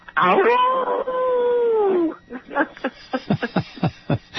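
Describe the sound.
A person imitates a coyote howl: a loud, drawn-out wavering wail lasting about two seconds that rises and slowly falls, followed by someone talking.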